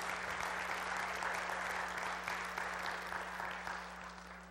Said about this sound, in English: Let's give our Lord and Savior a round of applause this morning. Amen.